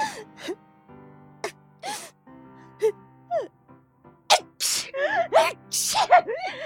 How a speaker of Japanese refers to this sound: なんでこんなにくしゃみが止まらないんだよ、花粉症のバカ野郎。